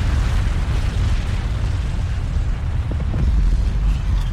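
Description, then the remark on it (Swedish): A loud, sustained roar of a volcanic eruption, a second blast much louder than the first as a big black cloud rises from the crater: deep, heavy rumbling that fills the whole clip at steady strength, with no voices. “Men efter bara några sekunder hörs ännu en smäll och den här är mycket högre.”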